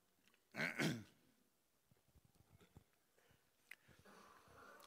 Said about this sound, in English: And, excuse me, I've had a bad cough, so I got to try do this once in a while.